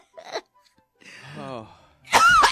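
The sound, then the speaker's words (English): A brief breathy noise, then a drawn-out voiced intake, ending in a loud, sharp burst that sounds like a sneeze with a cough-like bark to it. “It's like a cough. We're just going to try. We're going to give it to Kelly. A cough sneeze.”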